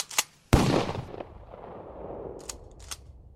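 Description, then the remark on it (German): Sharp gunshots crack out from inside a house at about 10 p.m., a short pop followed by a much louder blast with a long rolling echo, then a few fainter pops, sounding much like firecrackers. “Und gegen 10 Uhr abends hörte man aus dem Haus Geräusche, die wie Knallkörper klangen, das berichteten später Nachbarn der Polizei.”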